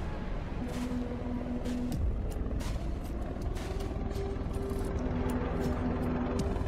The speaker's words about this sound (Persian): هلیکوپتران؟